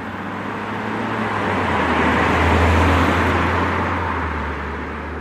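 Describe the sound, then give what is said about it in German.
A car engine starts some distance away and rumbles, building gradually and swelling in the middle before easing off as the car drives away, with broad road noise and no voices. “Ihre Augen blicken ins Leere, als etwas entfernt ein Motor startet. Es ist ihr Auto, das nun von ihrem Mörder genutzt wird.”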